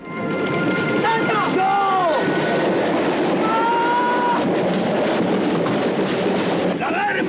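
A train rolls along with a loud, steady rumble and rattle, broken by several high, wavering metallic squeals from the wheels on the rails.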